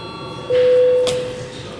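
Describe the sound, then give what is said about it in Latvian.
A parliament session bell rings once to call a break and the deputies' attendance registration, a steady, mid-pitched electronic tone held for under a second, fairly loud against a low background murmur. “Lūdzu zvanu.”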